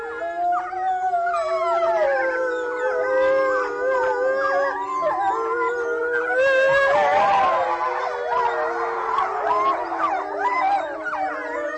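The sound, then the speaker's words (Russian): A wolf pack of four adults and four pups howls in chorus at the Novosibirsk zoo after the zoo has closed: several long overlapping tonal howls from the adults mixed with higher, wavering yips and whines from the pups, sustained and fairly loud throughout with no talking. “Конкретная пара, которая была записана, 4 взрослых животных и 4 детеныша в новосибирском зоопарке, они практически всегда выли после закрытия зоопарка”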